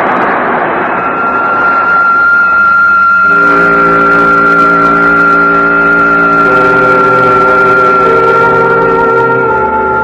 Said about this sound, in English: That is, supposing the pilot can pull the plane out of the screaming dive that has sent Dan scrambling for a seat